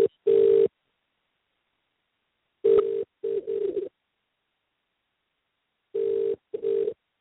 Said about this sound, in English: That actually sounds like it's funny. That's what I mean. Okay, let's cancel that. No, I think it's actually ringing his mobile phone.